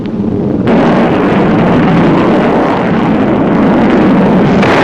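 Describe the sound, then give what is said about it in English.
A Thunderbird missile with no warhead slams into a Jindavik jet target plane flying at about 500 miles an hour, knocking it out by impact: a sudden loud burst that swells into a dense, rumbling roar and holds steady for several seconds with no voices. “It'll knock the target out by impact.”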